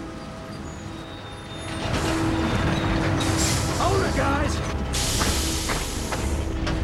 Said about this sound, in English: Hear those engines, Ryan! Set it down.